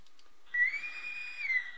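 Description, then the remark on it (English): A single sustained Navy boatswain's pipe whistle signaling the end, a bright high tone held for about a second with a slight rise and fall at the end, clear with no talking. “That's our Navy whistle telling us to get out.”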